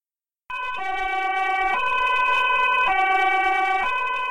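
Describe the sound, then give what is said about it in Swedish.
A loud two-tone siren from an ambulance taking a patient to Uddevalla hospital alternates steadily between high and low pitches, continuous after a brief silent start, with no voices present. “Ambulanspersonalen kom efter 45 minuter och körde henne raka vägen till Uddevalla sjukhus.”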